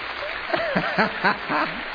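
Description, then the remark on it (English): A Presbyterian audience claps in a brief, modest patter, with voices audible over the steady hiss of hands throughout the two seconds. “Don't let our feeble Presbyterian clap fool you.”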